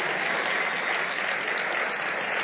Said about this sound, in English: Hallelujah. Yes. We can clap better for the life of Bishop Doug. Hallelujah.